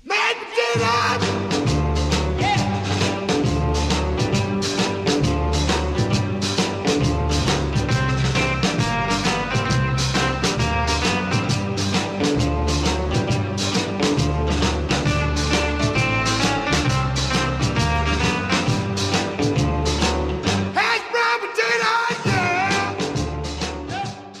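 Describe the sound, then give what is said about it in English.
A loud, driving instrumental dance song, recorded in December 1959 at Dukoff Studios in Miami, Florida, with a steady pounding beat and busy horns or keys, punctuated by excited shouts and yells about mashed potatoes and other potato dishes, running continuously until a brief break near the end. “It's kind of an instrumental, as you can hear. It features yelling about not just mashed potatoes, but other kinds of potato preparations.”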